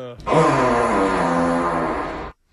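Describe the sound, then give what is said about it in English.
A long, drawn-out fart sound effect, buzzy and rich in overtones, holding loud and steady for about two seconds with a slight downward sag before stopping abruptly. No talking. “That's the plane going down.”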